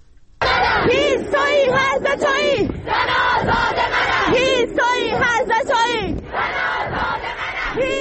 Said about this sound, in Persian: همچنین تصاویر دریافتی نشان می دهد که دانشجویان دانشگاه علم و فرهنگ تهران امروز تجمع کرده و شعار سر دادند.